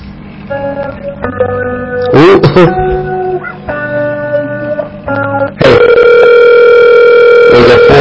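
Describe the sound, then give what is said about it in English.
Electronic telephone ringing: steady, buzzing tones in short bursts, ending in a louder continuous ring that holds to the end, with faint background noise and no clear talk. “Somebody is ringing somewhere.”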